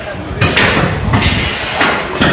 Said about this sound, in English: Really, all you could hear, like my ears were ringing from the sound of sledgehammers just smacking this rocks of cobalt against the concrete floor and pulverizing it